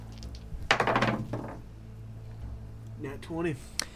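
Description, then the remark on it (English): Dice clatter across a table in a brief, sharp rattling burst of several quick knocks that settles within a second, followed a little later by a short stretch of someone talking. It is the first roll of new dice, an investigation roll with advantage in a tabletop game, and it lands a natural 20. “It's the new dice. First roll.”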